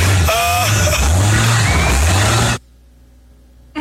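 car engine revving

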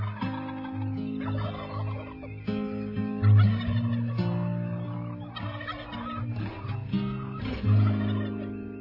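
turkeys gobbling

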